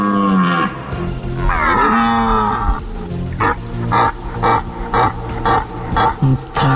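Red deer stags roar during the autumn rut in the Tatra Mountains, near Włosienica in the Rybi Potok Valley: a long, deep, drawn-out bellow, followed by a rapid series of loud, rhythmic grunting roars that rise and fall in pitch, with no talking.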